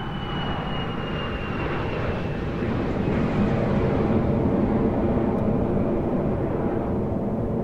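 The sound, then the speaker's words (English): A steady, loud airplane engine drone as the plane descends after a long flight to land in Perth, a continuous low roar with a faint high whine on top, heard from inside the aircraft. No one speaks. “So after this long flight, the plane's going down, feel it going down.”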